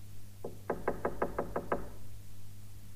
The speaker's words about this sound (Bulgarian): Виждам къща. При това отдалечена. Ще почукам на вратата.